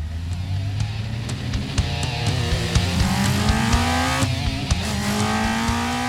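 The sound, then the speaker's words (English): A car engine revs and pulls away, its loud drone climbing steadily in pitch as it accelerates, with no one speaking. “Having been saved by his car keys and his quick thinking, Ulrich exited the basement and rushed to his car.”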